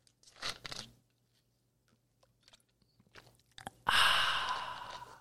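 Someone sips a Coke: a couple of short slurping gulps, faint swallowing clicks, then a loud, breathy, satisfied exhale that slowly fades.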